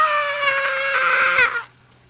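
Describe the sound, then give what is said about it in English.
A single piercing scream from a man, high-pitched and sustained for about a second and a half, loud, ending abruptly into near silence. “This was immediately followed by a piercing scream.”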